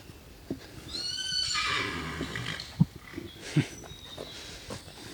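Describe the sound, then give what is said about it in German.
A horse lets out a loud, quavering whinny that slides downward in pitch, followed by a couple of short snorts or thuds against a quiet outdoor background. “Ich glaube, das Pferd hat gewirrt, weil es unsere Mikrofone gesehen hat und wollte was sagen.”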